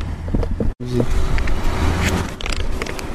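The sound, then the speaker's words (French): A radio station's car passes on a road without stopping, its engine and tire noise forming a steady, fairly loud rush with a faint tonal hum, over outdoor wind and background noise and a brief cut. “Alors que je vois une magnifique voiture de la belle radio qui s'appelle Plein Air. Et oui, ils ne s'arrêtent même pas”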